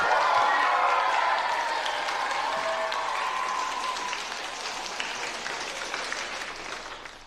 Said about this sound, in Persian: برای همین لطفاً مربی باشگاه AFC ریچموند رو تشویق کنید. اد لاسو.